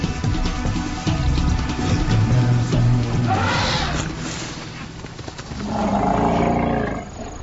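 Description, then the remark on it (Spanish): An elephant approaches with deep, loud rumbling calls and roaring bellows, swelling in a couple of heavy bursts as it draws near, with no one speaking. “Se asusta con el sonido de un elefante que se acerca.”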